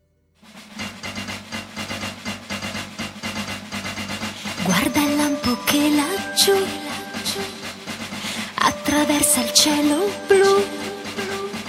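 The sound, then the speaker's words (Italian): An upbeat Italian cartoon theme song with a female voice singing over a full, bright band arrangement, steady and loud from start to finish after a brief silent lead-in. “la sigla italiana”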